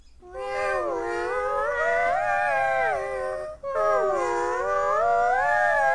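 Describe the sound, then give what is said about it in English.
Two long, drawn-out meows from rainbow magic kittens, loud, each wavering up and down in pitch for several seconds with only a brief pause between them and no talking. “When they move, it changes color. And the sound. Is that how they meow?”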